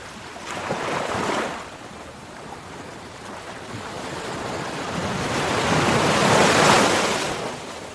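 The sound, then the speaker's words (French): Sea waves wash in and break on a shore of black pebbles polished by the waves at Rivière des Galets in southern Mauritius, two swelling surges with a hissing rush as the water drags back, under a steady background roar and some wind. “Situé au sud de Maurice, il est réputé pour ses pierres noires, polies par les vagues”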